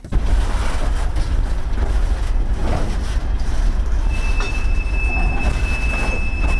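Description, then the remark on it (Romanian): A train rolls along rails at a railway depot in Chișinău, with a continuous low rumble, a steady high wheel squeal emerging partway through, loud, with no voices. “Trenurile modernizate în România stau cu minți pe peronul depoului din Chișinău, printre garniturile vechi, așteptându-și rândul să fie repuse în mișcare.”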